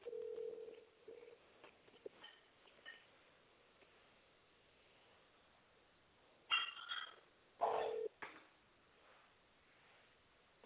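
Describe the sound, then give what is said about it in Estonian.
Faint, band-limited telephone line tones with a steady hum at the start, then two short bursts of tonal beeps around the middle, heard over a quiet phone connection with no talking, while on hold to a company's sales department with all lines busy. “Olete helistanud Allfreshi müügiosakonda. Hetkel on kõik liinid hõivatud. Jääge palun ootele.”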